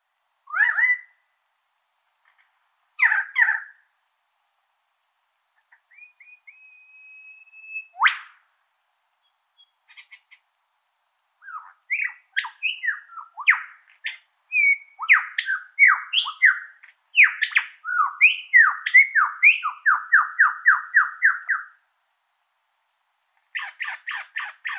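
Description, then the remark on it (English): A single superb lyrebird in a forest of tree ferns and eucalyptus in the Blue Mountains of southeastern Australia sings a long, varied string of calls: squawks, a thin rising whistle, rapid chirps and a fast repeated trill, each phrase sounding like a different species, with no other sounds. “what you heard is actually the song of one bird, a single individual. This part of Australia is home to the superb lyrebird.”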